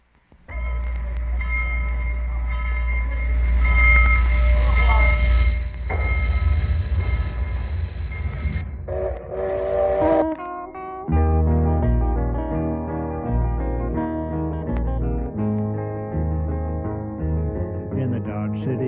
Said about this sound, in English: especially a steam locomotive, I can't resist dubbing in the steam whistle as well, because I think this was one of the exciting things about steam locomotive, just to hear that mournful whistle as it sped by.